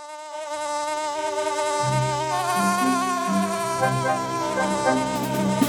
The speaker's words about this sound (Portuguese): O governo do estado de São Paulo apresentou esta sinfonia regida por Aedes aegypti, o famoso mosquito da dengue, para lembrar que esta doença mata.